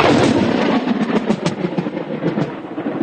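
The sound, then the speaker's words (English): Thunder crack from a lightning strike within about 30 to 40 yards, recorded during a storm by John Biener of the Illinois Department of Natural Resources: a loud, harsh burst of crackling rumble that starts at full force and rolls on for several seconds with sharp snaps scattered through it, with no voices. “John Biener says he's recorded a few storms, but this lightning crack is one of the closest he's recorded.”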